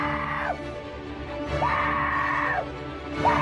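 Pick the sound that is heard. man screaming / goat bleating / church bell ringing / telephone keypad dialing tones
man screaming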